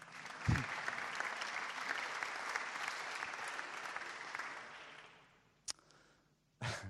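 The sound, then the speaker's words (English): A crowd of people breaks into sustained applause, dense clapping lasting about five seconds before fading out, followed by a sharp knock and a brief burst of noise at the end. “You can clap for that.”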